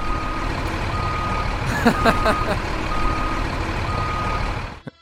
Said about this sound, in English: That's just the first of many Brinks trucks backing up to Russ Wilson.